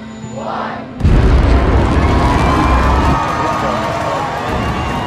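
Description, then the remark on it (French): A SpaceX rocket lifts off on the company's first launch, in 2006: after a quieter second with a faint tone, a sudden loud roar erupts into a deep, crackling rumble that holds steady, with crowd noise mixed underneath. “Et la première fusée décolle en 2006.”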